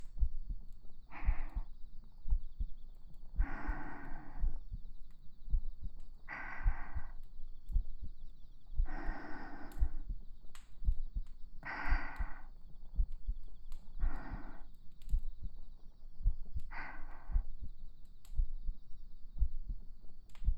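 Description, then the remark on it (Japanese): A steady human heartbeat thumps low and muffled, as if heard through the chest, with slow, soft breaths rising and falling over it at regular intervals. No talking. “最後にあなたがぐっすりと眠れるように、私の胸の音、聞こえますか？”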